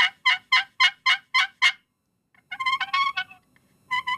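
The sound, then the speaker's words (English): A series of sharp, rhythmic turkey yelps played on a slate friction call, seven evenly spaced notes, then a brief pause and a faster, raspier run of calls, loud with no talking. “hit that slate call for us a little bit.”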